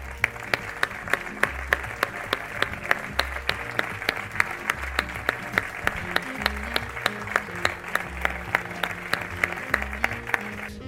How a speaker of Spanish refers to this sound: a quien brindamos este cálido aplauso, por favor.